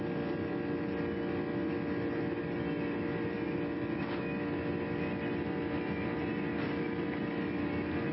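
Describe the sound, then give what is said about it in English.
The Rolls-Royce RB211 engines of a Lockheed L1011 airliner roar steadily at max takeoff power, a dense low rumble with a buzzing drone, broken by a couple of brief bumps and rattling as the plane rolls down the runway. “And you can even hear the sounds, the bumps, the rattling of that L1011 rumbling and stumbling down that runway.”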